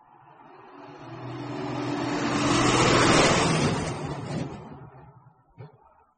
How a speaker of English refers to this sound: What's that noise? Is it an aeroplane? No, it's a lorry. It's loud. I don't like it.